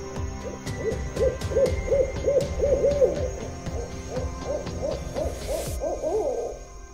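An owl hoots in a quick, rhythmic series of short, clear calls, repeating steadily over a faint sustained drone throughout.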